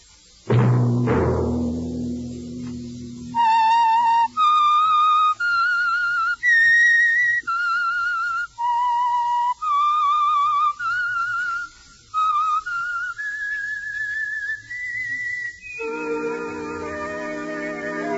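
A clear, solitary whistled melody, the theme of the Signal Oil radio program The Whistler, with sustained notes, each tone pure and steady with bright harmonics, following a brief low musical chord at the start and ending on a held, fuller note.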